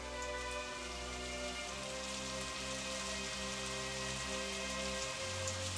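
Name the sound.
rain falling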